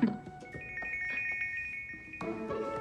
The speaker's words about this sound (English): Scarlett answers her phone. It's Michelle. You know what? She's probably calling about the order.